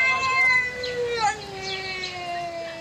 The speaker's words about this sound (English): So what do you think this cat is saying? Okay. There's more. Can you hear that? It's quite quiet.